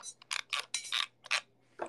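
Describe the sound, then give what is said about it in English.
A quick series of small plastic clicks from a computer mouse scroll wheel as someone scrolls looking for an artwork, for ASMR, coming in short irregular bursts with brief pauses between, fairly quiet and with no voices. “Can you hear my mouse scroll?”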